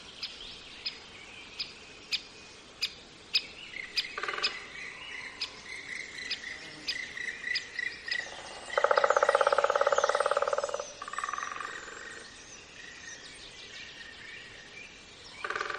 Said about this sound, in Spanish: Y en cambio, escuchad qué distinto el hayedo de Zilbeti en el Pirineo Navarro. Los pájaros carpinteros.